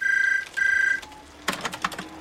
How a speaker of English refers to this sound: Jack types at his word processor as the rain streams down the window.